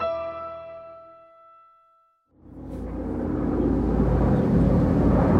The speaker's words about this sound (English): Is that a helicopter above you? Yeah. It's pretty loud. Yeah. Do you hear that all throughout the day and night? Yeah, well, the Americans are supposed to not fly from like 9 at night till 8 in the morning, but they've thrown that out the window